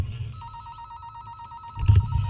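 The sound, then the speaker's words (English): A telephone rings with a rapid electronic trill, the ring heard when calling a call-in hotline. It is steady and lasts over a second before a low rumble and muffled noise take over at the end. “That may actually turn into a ringy-dingy phone this afternoon if the phone that my wife brings in.”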